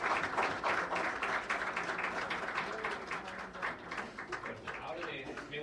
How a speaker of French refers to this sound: Merci à tous les membres de l'ACRALO qui ont permis à cette rencontre d'être possible. Et donc, je vous demande d'applaudir tous les membres de l'ACRAB.